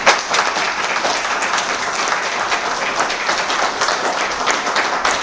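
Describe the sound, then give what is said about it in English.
A round of applause from a group at a town meeting, thanking people for their work, steady dense clapping that stays loud and even for about five seconds with no voices standing out. “Because round of applause.”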